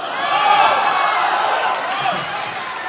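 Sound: audience applause and cheering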